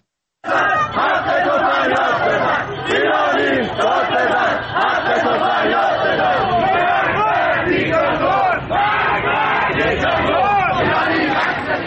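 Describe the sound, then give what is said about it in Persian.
A large crowd of protesters in Tehran, Iran chants slogans together, many voices shouting in loud, rhythmic unison that continues without pause for the whole stretch. “در تهران نیز علاوه بر شعارهایی که پس از مسابقه فوتبال در ورزشگاه آزادی سر داده شد، تجمعاتی نیز در حوالی پارک دانشجو و محله‌های اطراف آن شکل گرفت.”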